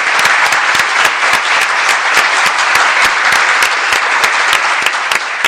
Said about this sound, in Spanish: Les ponemos un aplauso, que les molará más. Vamos, venga. Este aplauso.